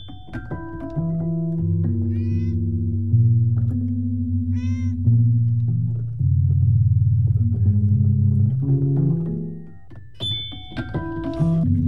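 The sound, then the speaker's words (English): A cat plays a Fender Rhodes 88-key electric piano: clustered, overlapping notes ring out steadily and haphazardly, with a couple of brief meows rising above the sustained keyboard tones. “she's playing on the Fender Rhodes 88-key electric piano from her record called …”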